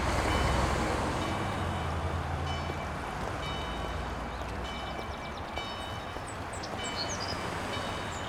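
Steady road traffic noise, a continuous broad rumble and hiss of passing vehicles, with faint repeated beeping tones like a reversing vehicle in the mix. No voices.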